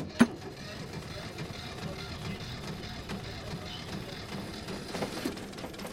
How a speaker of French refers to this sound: Ok, j'allume le moteur.